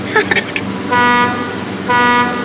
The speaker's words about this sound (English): Can I honk the horn now, Dad? Honk away. Honk, honk.